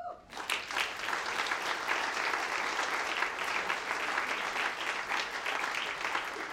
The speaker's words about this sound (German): Und manche der Kolleginnen und Kollegen hier stehen das erste Mal auf der Bühne. Also geizen Sie nicht mit Beifall. Jeder Einzelne verdient es, dass man Ihnen das honoriert.